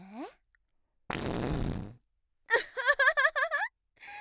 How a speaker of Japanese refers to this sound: なんか言った？私のおならが遮っちゃってごめんね。また出た。